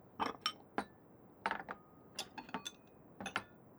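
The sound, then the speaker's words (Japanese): Dishes clink and clatter together in a quick, irregular series of bright knocks with short ringing tails, quiet, with no one speaking, as the dishes are cleared away to be washed. “それじゃ、私洗うから、お皿だけ持ってきて。”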